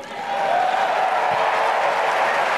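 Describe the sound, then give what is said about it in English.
A crowd of tens of thousands at the Democratic National Convention applauds and cheers a speech by Kamala Harris in a steady, dense roar of clapping and voices that rises quickly and stays loud throughout, with a faint tonal hum running underneath. “That is the bullshit that tens of thousands of Democrats lost their deluded minds cheering for at the Democratic National Convention.”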